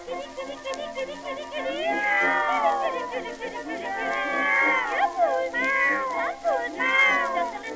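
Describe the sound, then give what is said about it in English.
A human voice imitates cats meowing, with several drawn-out, wavering meows and yowls in quick succession, fairly loud, rising and falling in pitch. “She's got the neighbors talking, and they don't think she's right, for you can hear her calling cats at any time of night.”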